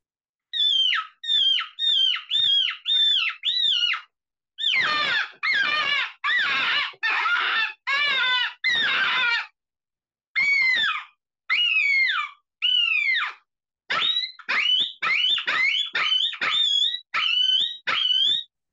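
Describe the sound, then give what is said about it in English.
A handmade bite reed call blown by hand, imitating a bird: rapid, loud squealing chirps in quick bursts, turning harsher and raspier midway before returning to clear, rising-falling notes. “Oh, it's a bite reed. This is what they consider a bird bite.”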